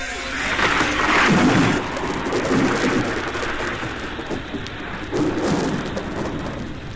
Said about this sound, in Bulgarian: И гръм! И молния!